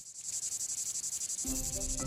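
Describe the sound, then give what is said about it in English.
A cicada climbing a bare stem and shaking its abdomen buzzes in a shrill, steady pulsing drone, fairly loud, with rapid rhythmic throbs; low tonal music swells in underneath near the end. “A cicada climbs up a bare stem, shaking its abdomen.”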